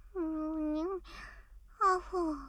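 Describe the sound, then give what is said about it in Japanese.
A person yawns while sleeping: a drowsy voiced yawn with a long, steady drawn-out tone, a breathy exhale, then a second louder yawn that trails off with falling pitch. Fairly loud, with no other talk. “どうして寝ながらあくびするんだよ。”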